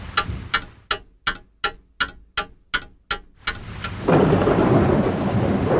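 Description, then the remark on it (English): A run of about ten evenly spaced sharp taps gives way to a sudden downpour, heavy rain hissing loud and steady until the end. No one speaks. “It's raining a lot now.”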